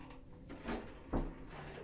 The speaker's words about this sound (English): So you want this door closed? Yeah, if you close, because it'll be pitch black, won't it? There's a point. Close it right over, if you can. There you go.